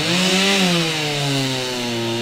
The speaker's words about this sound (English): Now, yesterday, really the only sound was of chainsaws as residents and volunteers were cutting through jumbled piles of wood.